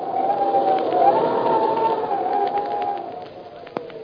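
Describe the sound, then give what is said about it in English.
A cold wind sound effect in the Captain Midnight program presented by the Skelly Oil Company howls steadily, a wavering mid-pitched moan over a broad rushing hiss, easing slightly toward the end with a brief sharp click near the finish. No voices. “Say, when you hear the wind blowing like this, what's the first thought that pops into your head?”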